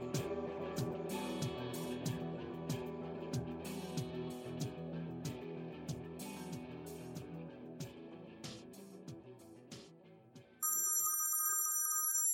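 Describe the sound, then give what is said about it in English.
A busy instrumental music bed plays for about ten seconds, then cuts out as a steady electronic telephone ring tone starts abruptly when a radio show's call-in phone lines open, sounding clearly on its own until the end. “Without further ado, I want to go ahead and open up the phone lines.”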